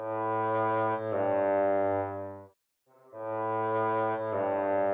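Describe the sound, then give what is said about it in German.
A low, steady woodwind note is held for a couple of seconds, breaks off into a brief silence, then sounds again with added reverb. No one speaks. “Man kann das natürlich kaschieren, wenn man da etwas Hall noch drauf macht. Nochmal das Original und dann mit Hall.”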